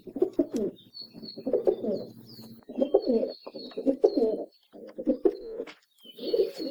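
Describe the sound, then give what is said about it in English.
A rock pigeon's deep, throaty courtship display coo repeats in rolling bursts, with a few faint higher bird chirps in the background. “Their primary song is a display coo, which they use to attract their mates and is accompanied by a puffing up of their throat feathers and a series of courtship bows.”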